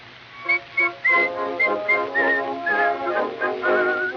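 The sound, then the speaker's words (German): Sharp, agitated, angry whistling in short, quick bursts that rise and trill, fairly loud, with no talking. “Endlich erhört sie ihn, aber oh grausames Schicksal, der Ehemann kommt hinzu und pfeift wütend.”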